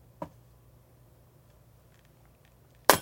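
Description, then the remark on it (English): A short electric zap crackles, followed after a quiet pause by a loud, bright burst of breaking glass near the end; both are sound effects added while editing a Vine video. No one speaks. “Added the zap and the glass wow. break.”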